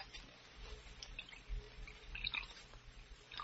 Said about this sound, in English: I'm going to drink out of it. You'll have to pour the wine yourself